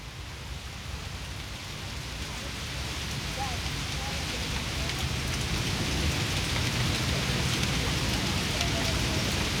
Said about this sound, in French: Il pleut à verse lorsque Ginger achète le Evening Journal à un kiosque.